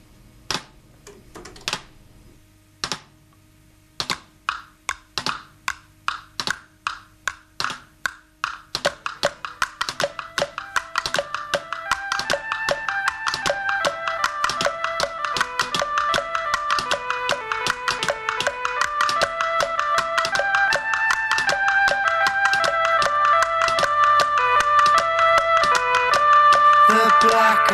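A rock song intro begins with scattered dry taps that settle into a steady clicking beat, then sustained melodic tones swell in and grow fuller and louder beneath the tapping percussion.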